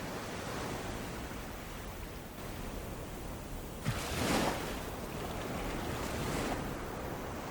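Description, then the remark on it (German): Steady ocean surf rushes continuously, with waves gently coming and going; a soft wave swells and washes in around the middle and another gentler surge follows later. No voices, just the broad, even hiss of water. “Und höre das Rauschen der Wellen, wie sie sanft kommen und gehen.”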